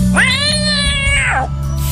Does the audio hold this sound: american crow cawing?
no